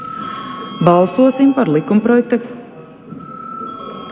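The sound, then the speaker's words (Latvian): A Latvian Saeima chamber bell rings in one steady, continuous high-pitched tone for several seconds before deputies vote on adding a bill on public electronic media to the agenda, while a voice speaks briefly over it partway through. “Lūdzu zvanu.”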